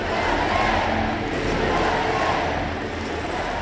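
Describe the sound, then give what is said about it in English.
A large home-country crowd at a hockey arena in Canada roars and chants a victory cheer after Canada's women's hockey team won gold over the Americans, a steady, loud wall of massed voices, rising and falling slightly in rhythmic waves without pause. “Back at the arena, before the Canadians got their gold medals and the sullen Americans received their silvers, the home country crowd paid their respects with a cheer they could only chant in victory.”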